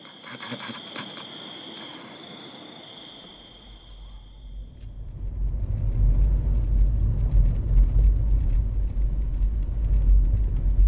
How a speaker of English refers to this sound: The next morning, we are in a car